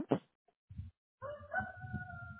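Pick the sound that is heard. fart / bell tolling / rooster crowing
rooster crowing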